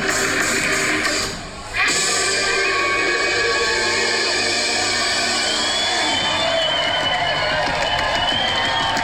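A dense wall of concert crowd noise about halfway through a show, cheering and roaring continuously, a recording played back through a phone into a microphone so it sounds small and tinny, with a brief dip near the start before the din swells back up.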